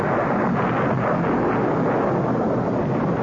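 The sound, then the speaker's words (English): Loud thunder crashes and rolls overhead, a deep, sustained rumbling roar that fills the whole stretch without letting up. No voices are heard. “That storm last night shook this old house like a penny shaking away.”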